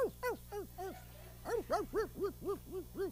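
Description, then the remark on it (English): A person's voice imitates a puppy barking, a quick series of about ten high, yappy arched barks in an uneven rhythm with a short pause midway, fairly loud, with no talking. “I'm a puppy.”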